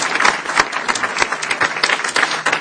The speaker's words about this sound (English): So, Carol Browner, Secretary, thank you very, very much for what you have done. And please give her a round of applause. She deserves it.